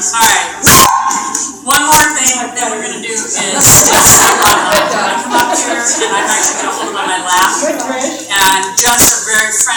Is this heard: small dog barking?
yes